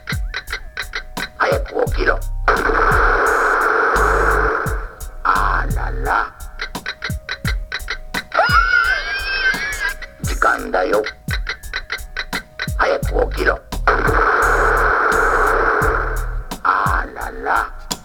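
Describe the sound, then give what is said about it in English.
A novelty alarm clock ticks steadily and quickly while bursts of buzzy electronic sound, a warbling whistle-like tone and chattering voice-like noises play loudly over the ticking. “Also, I have no uses for alarm clocks.”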